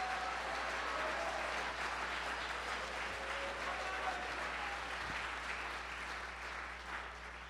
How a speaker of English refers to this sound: Come on, let's clap our hands and give him a praise.